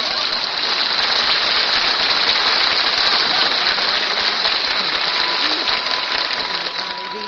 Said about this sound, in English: Hey, Fred, turn that vacuum cleaner off till I finish my breakfast, will you? This is the third time you've vacuumed my Wheaties right out of the syrup here.